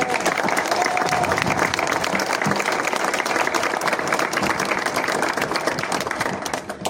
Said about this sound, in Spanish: Renovamos al personal, capacitamos y ahora hay orden. Un aplauso para nuestro personal.